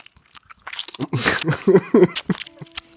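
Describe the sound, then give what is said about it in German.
Wet mouth smacking and chewing, a quick irregular run of crunchy clicks and squelches lasting a few seconds, loudest in the middle and tapering off, with no talking. “Während ich finde, es sind ja eher diese Gaumen- und Schmatzgeräusche, die mich stören.”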